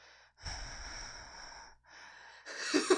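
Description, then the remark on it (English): A voice imitates heavy, controlled breathing, as when the heart is racing and one tries to control it: two long airy breaths drawn in and pushed out, then a sharper, louder gusty exhale at the end. “And I was sitting on the couch with my brother, and I was breathing like this.”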